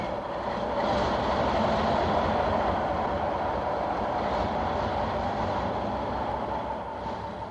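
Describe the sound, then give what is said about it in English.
A very large locomotive, painted green and white with the legend Northwestern on its side and called City of Ceylon, rumbles steadily as it comes into a station, a continuous loud roar of wheels and engine that swells slightly and then eases toward the end, with no voices. “This locomotive that's coming in now is a very large one.”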